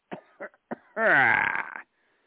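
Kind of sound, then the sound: human body sound, coughing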